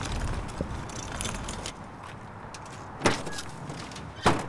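A small trolley rumbles and rattles as it is pulled off a yellow school bus parked outside the Vafa Center in uptown Charlotte and dragged over a hard surface to a truck, then quiets before two sharp metallic knocks ring out a second apart. No one speaks.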